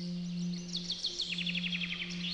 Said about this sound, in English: On Saturday nights, the Vatican gardens are left, as you may imagine, to a quiet splendour. All you can hear is the sound of the twittering of birds.